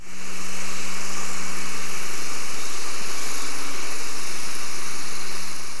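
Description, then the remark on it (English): A steady, continuous engine drone from a research vessel about 14 kilometers from the hydrophone, recorded underwater, with a constant low hum and broad hissing noise, no voices, unchanging for the whole stretch. “It's a research vessel at about 14 kilometers from the hydrophone.”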